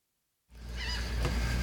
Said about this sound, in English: We got some great seagulls with that sound bite.